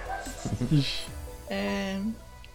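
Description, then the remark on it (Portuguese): Several dogs bark in a quick cluster of short, overlapping yaps, followed by one longer, steady, drawn-out bark that holds its pitch for about half a second before stopping. “Meu Deus, tem muito cachorro latindo aqui.”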